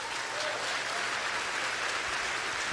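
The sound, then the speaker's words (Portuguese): Steady, dense clapping from a large crowd fills the space for a few seconds, a continuous wash of many hands with no voices standing out. “Aí pior, pior, não aplaude não.”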